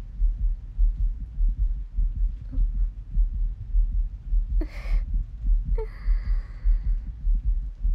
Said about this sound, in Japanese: 私の心臓、今、早く動いてますよね。この部屋に開けてもらってから、ずっと、ドキドキしてますから。心音を聞かれるの、なんだか恥ずかしいですね。